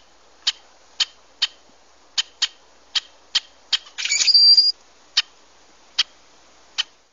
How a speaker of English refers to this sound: And it's called a rusty blackbird, but you have to see it in pretty good light to see the tinge of brown around its head. So what do they sound like? What kind of a sound do they have? Well, it's certainly different than the crow.